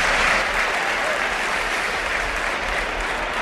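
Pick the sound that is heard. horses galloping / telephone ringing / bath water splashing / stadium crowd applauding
stadium crowd applauding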